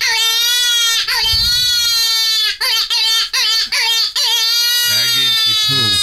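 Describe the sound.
A hunter's predator call, used to lure foxes, mimics a distressed rabbit caught by a fox: loud, high, wavering wails in a string of short bursts, then a sustained cry, with a low talking voice briefly underneath.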